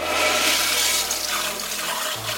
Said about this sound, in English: So then they hear the toilet flush.